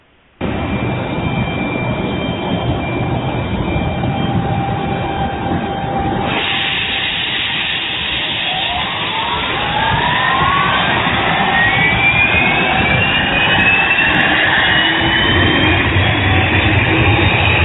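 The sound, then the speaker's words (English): A jet aircraft engine starting up close by, heard from outside the plane: a loud, steady roar with a whining pitch that climbs and spools up over several seconds, no voices. “Somebody standing close by a jet engine starting up, and all the noise outside that one would hear when the jet engine started up.”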